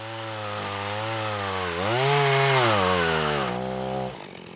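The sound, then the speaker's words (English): A chainsaw bucking fallen trees into about 8-foot lengths during the cleanup of Scotty Creek buzzes steadily, then its whining engine pitch climbs and holds as it bites through wood before dropping back and cutting off near the end. No voices. “Yeah, so we were bucking the trees up into about 8-foot lengths.”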